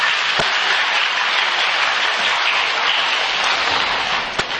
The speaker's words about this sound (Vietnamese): Rồi, quý vị cho một tràng pháo tay đi.